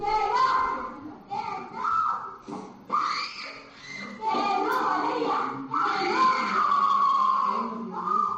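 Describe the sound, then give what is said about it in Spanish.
A 7-year-old girl with autism spectrum disorder screams and wails in distress as teachers insult and humiliate her in Dos Hermanas, Seville, Spain, with loud, strained cries in repeated bursts with short breaks over several seconds. “Es el grito de la niña, es insoportable.”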